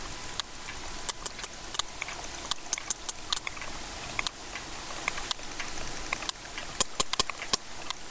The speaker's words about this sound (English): Those clicks are the sound of a sperm whale recorded off the coast of the Spanish island of Ibiza.